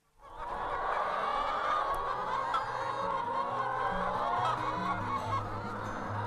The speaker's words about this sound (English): It's 10 a.m. on Friday morning, and I'm here in Mullagh, County Cavan. And Margaret Farley's free-range hens have just finished their breakfast and are heading out for a wander across the fields.